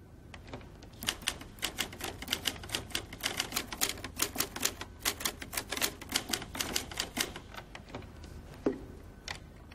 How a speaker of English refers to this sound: This is like Merdad's typewriter, right?